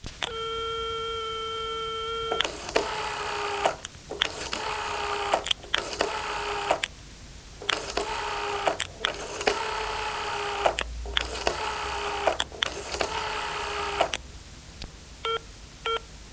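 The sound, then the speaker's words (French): A steady dial tone hums for a couple of seconds, then a telephone is dialed in a long series of buzzy, evenly spaced bursts, ending with a few quick beeps. No voices. “Fabien téléphone à la mère d'Hélène.”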